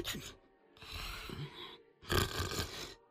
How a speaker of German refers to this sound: Der Kopf ihres Lehrers ist auf seine Brust gesunken und er schnarcht leise.